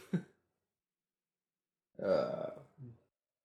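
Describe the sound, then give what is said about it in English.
A mouth raspberry mimicking a fart: a buzzy, sputtering blow lasting about half a second, trailing off into a shorter low flutter, preceded by a brief faint vocal noise, with silence between. “Nice fart sound.”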